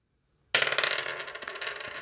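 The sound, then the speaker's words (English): Three wooden dice from a Christmas cracker, rolled for character stats, clatter onto a hard surface after a brief silence, a dense rattling burst with a sharp extra knock midway, then fading tumbling clicks. No talking. “I am using these 3 wooden dice that I got out of a Christmas cracker. They roll terribly.”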